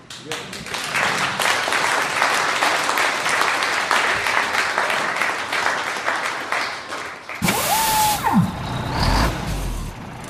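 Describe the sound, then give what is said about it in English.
A diesel truck rumbles with a dense, noisy clatter, then a sharp burst of air-brake hiss near the end as a whining tone slides downward. “Diesel truck.”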